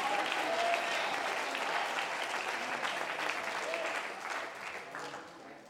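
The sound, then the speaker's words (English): A crowd of people clapping their hands together in a dense, sustained burst of applause that stays steady and fairly loud throughout, tapering slightly toward the end. “Oh, as you clap your hands, would you lift your voice and say, I want the Holy Ghost.”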